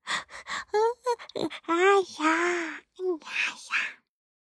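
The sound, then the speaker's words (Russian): A drawn-out, wide-mouthed voiced yawn by a girl in a bedtime story, imitated by a voice: breathy gasps and short vocal sounds, then a long wavering sigh that sinks in pitch before trailing off into a final breath. “И Соня зевнула во весь рот.”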